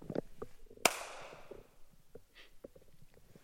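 A single sharp hand clap rings out and its echo trails off over about half a second in a hall, with faint scattered shuffling and murmurs before and after.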